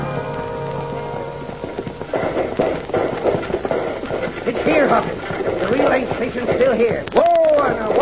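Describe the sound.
Horses gallop in a rapid, continuous clatter of hooves as riders ride in the dark, mixed with loud shouts of "Hi-ya!" and a brief high whinny-like cry near the end.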